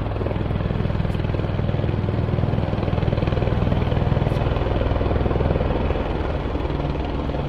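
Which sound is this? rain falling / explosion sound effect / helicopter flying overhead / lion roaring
helicopter flying overhead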